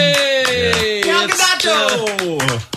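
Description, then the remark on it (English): Quick, steady claps ring out over a loud, sustained voice whose pitch slides gradually downward, with the clapping continuing throughout. “Yeah, it's a weird thing because I feel like you have to really clap like as soon as the celebrity show, like, oh no, no, no, yeah.”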